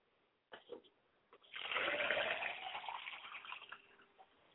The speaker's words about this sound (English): I pour a glass of water for my father, that he may have his thirst quenched, and he may be endowed.